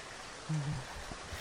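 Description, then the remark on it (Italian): A steady, even hiss of rain falls throughout, fairly soft and continuous, with a short low hum rising briefly in the middle. “Mamma mia, se piove.”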